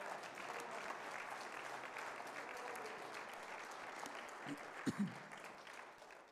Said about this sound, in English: Give him a hand clap this morning.